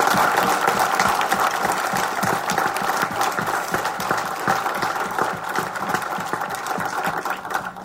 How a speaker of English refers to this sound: let's get the whole Mazda team up here. You guys deserve some applause, too. Come on up.